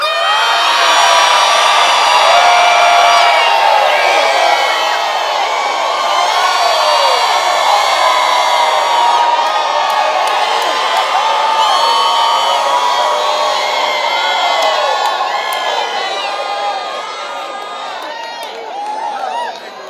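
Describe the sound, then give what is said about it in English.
A large audience screams and cheers loudly and continuously, a dense wall of high-pitched shrieks and whoops that holds for most of the stretch before easing slightly near the end. “Who just want to scream?”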